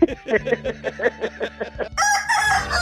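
A rooster sound effect: clucks in a quick, rhythmic series of short bursts, then a loud, drawn-out crow at the end, clear with no talking.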